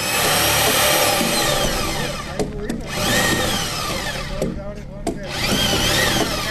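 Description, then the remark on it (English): A power drill whines loudly as a work crew bores holes into the first round of spruce logs, to be fastened to a concrete foundation at Middle Ridge, its pitch rising and falling through several bursts with brief pauses between them, steady. “They are drilling holes into the first round of logs that will be fastened to the concrete foundation.”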